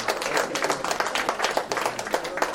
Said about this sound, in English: Everybody look around. There, come on. Give Jesus a hand clap. Hallelujah.